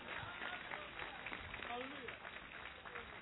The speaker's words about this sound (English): Give Lord a clap offering.